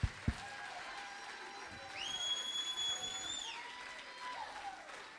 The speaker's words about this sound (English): Well, praise the Lord. Oh, clap your hands and shout.